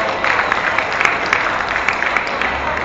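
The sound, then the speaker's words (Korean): A crowd claps steadily throughout, a dense, even wash of applause with scattered sharper claps standing out, fairly loud and sustained with no voices, applauding the performance group Momjitbae Tongilnal after their show. “예능 공연을 힘차게 몸짓으로 펴내주신 몸짓배 통일날 여러분께 다시 한번 힘찬 박수 부탁드리겠습니다.”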